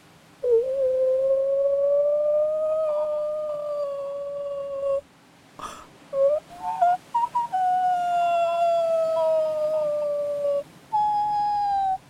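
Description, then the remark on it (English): A grey whale stuck on the shore wails in long, mournful, sustained tones, first one drawn-out cry, then a brief pause and a second long wail, followed by a short final one. Loud, with no talking. “Have you never heard a whale wail before? It's the awfulest, awfulest sound.”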